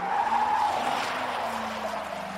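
Car tires screech in a sustained, loud, high-pitched squeal lasting a couple of seconds, steady, with engine rumble underneath and no voices; a car outside a baseball field during a game watched by about 200 people.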